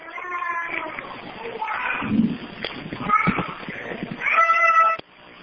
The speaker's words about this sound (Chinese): 就包括刚刚我们这里有美妙的啼哭的婴儿的声音那样的小的小孩